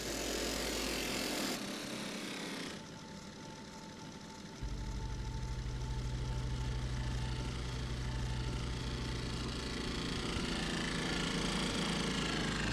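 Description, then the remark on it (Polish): A scooter engine runs steadily, its loud buzzing hum shifting pitch partway through as it revs, with no voices present. “Manu, ty możesz wziąć drugi skuter.”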